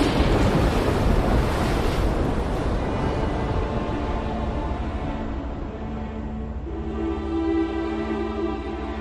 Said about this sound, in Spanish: ¡Aguantar, contramaestre! Solo podemos aguantar y rezar a Dios Todopoderoso para que nos guarde de esta tormenta.